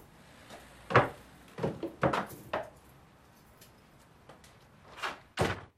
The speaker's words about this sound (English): He opens the door to the cupboard and hangs his coat inside.